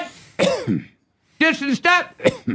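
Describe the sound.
A person coughs and clears their throat in a short burst, then pauses about a second before a rapid cluster of harsh, voiced coughs.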